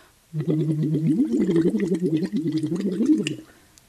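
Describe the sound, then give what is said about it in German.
A voiced 'U' vowel hummed through a Luxvox silicone tube, a voice exercise device, into a vessel of water, producing a continuous rapid bubbling burble with a wavering pitch, lasting about three seconds before stopping abruptly. “Und wenn man das macht, also durch diesen Luxvox-Schlauch ein U ins Wasser machen quasi, beginnt das Wasser zu blubbern und das tut der Stimme total gut und da gibt es verschiedene tolle Effekte, die helfen, dass die Stimme danach müheloser kommt,”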